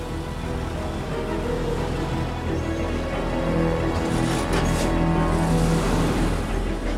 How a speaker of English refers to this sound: The bus reverses out of its parking place.